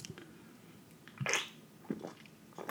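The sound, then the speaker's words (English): Quiet mouth sounds of someone sipping a drink: a soft slurp in the middle with a few smaller wet clicks and swallows around it, no talking. “It gets better every sip.”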